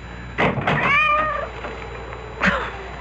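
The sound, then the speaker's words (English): A cat meows once at the front door in the middle of the night, a drawn-out rising and falling cry, with a few sharp knocking or scraping sounds before it and another brief thump afterward. “That cursed cat.”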